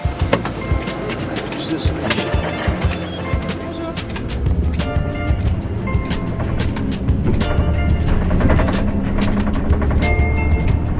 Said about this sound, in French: On est rentré dans le bus. On va où ? À Grenoble,